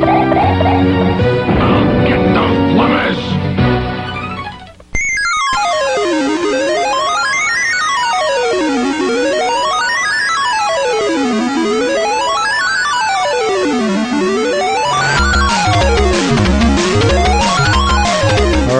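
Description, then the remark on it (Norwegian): A Sinclair ZX Spectrum computer loading sound: after a dense, noisy electronic burst, harsh screeching tones sweep up and down repeatedly, then break into choppy, buzzing data chatter. Loud, with no talking. “Det er litt, det er lyden av en ZX Spectrum.”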